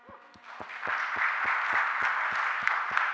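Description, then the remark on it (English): A crowd breaks into applause, dense overlapping clapping that builds quickly and holds steady, with a few sharper individual claps standing out in a regular beat. “I think we all them round of applause.”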